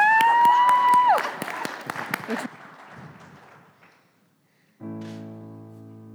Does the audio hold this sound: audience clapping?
yes